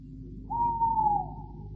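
A single long owl hoot in a cemetery at midnight, held steady and sliding slightly downward, rises over a low rumbling background hum and then fades. No one speaks.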